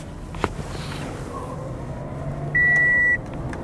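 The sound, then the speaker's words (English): A single steady electronic beep from a car's reverse warning sounds out clearly for about half a second over a low, continuous rumble of vehicle and street noise. “the car's backing up and everything else.”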